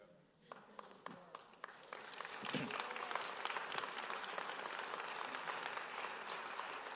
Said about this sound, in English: And look, I know the adults clapping and they're going, your parents are going to say, I told you.